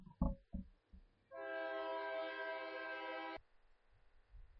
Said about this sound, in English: we'll take another train break here, maybe just stretch for a little bit while we take this train break. This is unusual to get back-to-back trains, but maybe just stretch out for a minute, and then we'll get back to it here.